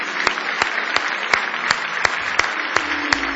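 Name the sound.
audience clapping hands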